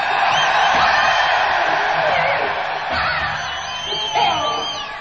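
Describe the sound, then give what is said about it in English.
A concert audience roars and cheers steadily for several seconds, making as much noise as it can, with whoops and shouts rising out of the dense wash of noise and a brief swell near the end. “It's up to you, just make as much noise as you fucking can.”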